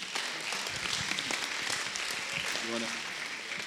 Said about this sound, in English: Amen. Amen. Let's give God an applause.